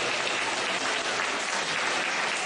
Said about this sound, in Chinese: 让我们再次用掌声感谢卢军宏台长。